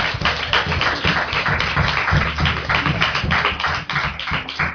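A crowd of people claps steadily in sustained applause for the presenters, a dense, continuous patter of many hands that holds at an even loudness throughout, with no voices.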